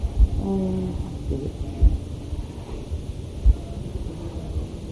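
Deep, steady rumbling of a thunderstorm outside, with a few dull low thumps standing out from a continuous wind-like roar. There is no talking.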